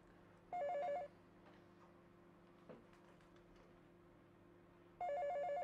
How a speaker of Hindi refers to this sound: उठो जाकर फोन सुनो।